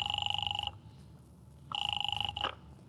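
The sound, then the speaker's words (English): A telephone rings at the Faraday Hotel on the other end of the line: two bursts of fast, trilling electronic ringing separated by a pause, with a low hum in the background. “Calling up a very nice young lady named Gloria Hunt, whom I just happen to be with at 9 o'clock in town.”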